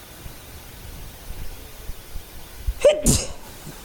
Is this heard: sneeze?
yes